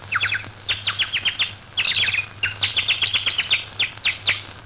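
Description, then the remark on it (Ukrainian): A bright, warbling whistle imitates nightingale song in a park, with rapid trills and chirping bursts repeated in quick phrases, fairly loud over a steady low hum. “Отак засвищу солов'йом, і всі влюблені йдуть на звук солов'їної пісні.”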